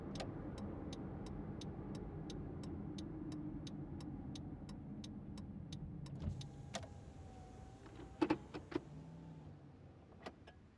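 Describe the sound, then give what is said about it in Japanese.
A car interior rumbles steadily while a turn signal ticks at an even pace, then the engine noise eases off as the vehicle comes to a stop, followed by a few soft clunks. “それより、車止めろ。”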